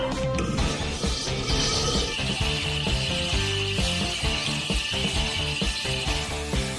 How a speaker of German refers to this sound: Das geht durch wie Butter. Links und rechts seht ihr den Sand, der sich zusammen mit dem Wasser durch das Metall schleift.